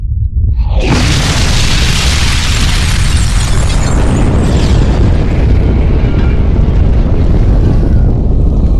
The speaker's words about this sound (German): Der erste Sprengkopf ist detoniert. 7 Kilometer über der Stadt. Ein Großteil der Explosion wurde nach oben gelenkt, von der Stadt weg.